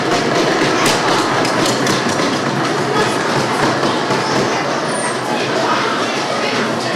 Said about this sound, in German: ist es in der Uni üblich, nicht jetzt zu klatschen oder zu jubeln, das könnt ihr natürlich auch machen, sondern das Übliche ist, dass man auf den Tisch klopft. Das heißt, am Ende der Vorlesung klopft man so mal drauf. Mal ausprobieren.